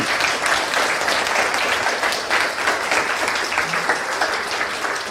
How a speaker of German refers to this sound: Die haben den Applaus auch auf jeden Fall verdient. Die sitzen.